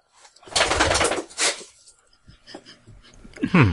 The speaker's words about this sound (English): It sounds like the dog has something to say about that. Yeah, thanks. Good timing. Good timing, everyone. I think the dog agrees.